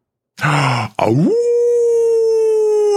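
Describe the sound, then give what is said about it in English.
A person imitates a wolf howl: a short gruff grunt, then a rising voice that settles into a long, loud, sustained tone held steadily to the end. “Can I howl?”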